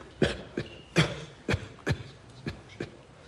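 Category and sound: human body sound, cough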